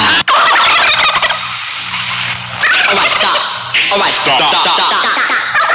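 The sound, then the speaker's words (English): A voice imitates a turkey gobbling, a loud burst of rapid warbling syllables repeated in a few rising and falling runs, with no other sounds around it. “I'm a turkey. Waka waka waka loo.”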